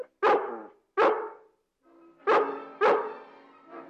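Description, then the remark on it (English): A dog barks loudly, four sharp barks in an uneven rhythm with short pauses, and a fifth just starting at the end. No one speaks. “Keep that dog away from me now.”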